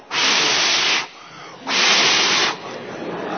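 Someone blows hard on grass stems to make them move, in two long, forceful breaths, each a loud rush of air, with a softer airy hiss in between and trailing at the end.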